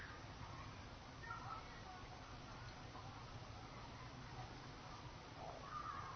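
Faint birds call now and then outdoors, their brief high notes rising over a steady wash of ambient noise, with people murmuring somewhere in the distance.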